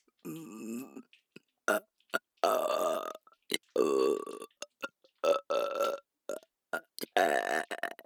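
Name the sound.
burp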